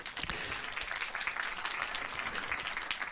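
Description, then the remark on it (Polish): A crowd applauding steadily, a dense wash of many hands clapping at an even, sustained level for about three seconds, with no voices standing out, welcoming guest Michał Oleszczyk at a live event. “bo są nimi Michał Oleszczyk, autor podcastu Spoiler Master, brawa.”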